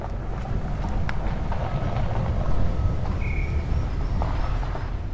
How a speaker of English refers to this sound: Gusts of wind carry the noise of excavators down from a flattened, bare, reddish-brown mountain that rises out of the jungle some 3 kilometers away. The mountain top has become a gigantic mine that is slowly being excavated, terrace by terrace.